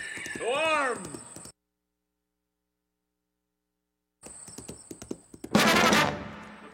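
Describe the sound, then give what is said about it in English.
A horse, mounted for Paul Revere's midnight ride, whinnies with a rising and falling cry, then after a pause comes a run of sharp hoof clatter and a loud burst of noise. “Get on the horse, Levine.”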